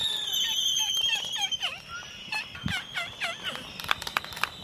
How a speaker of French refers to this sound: Ce qu'on entend, ce sont les piaulements et les claquements de bec des albatros pendant la parade amoureuse. Les albatros ultra fidèles, hein, ils passent leur vie jusqu'à 60 ans avec le même partenaire.